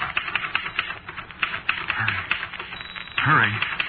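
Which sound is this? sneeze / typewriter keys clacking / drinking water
typewriter keys clacking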